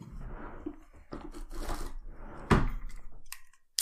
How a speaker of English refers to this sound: I had to get my emergency beer out of the drawer that I keep in this desk